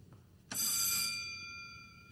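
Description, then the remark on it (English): The alarm bell of a stuck elevator sounds with a sudden, sharp onset, its bright metallic ringing tones holding steady and slowly fading over about a second and a half, with no one speaking. “No, it's not moving. Maybe if we push the alarm.”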